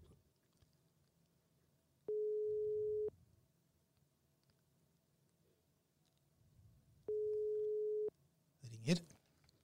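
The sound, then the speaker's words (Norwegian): An outgoing phone call's ringing tone: two steady one-second beeps about five seconds apart, clear over a quiet, faintly noisy background, followed by a brief rustling burst at the end. “Kanskje han ikke har på lyd på telefonen sin?”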